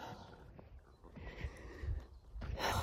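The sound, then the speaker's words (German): Heavy, breathy panting from a person who has just walked up a small incline on the way to the forest, a steady run of rough inhales and exhales that grow louder toward the end, with no talking. “Keuch auf dem Weg zum Wald. Ich glaube, ich habe ein bisschen früh eingeschalten. Bin gerade erst den kleinen Anstieg hoch.”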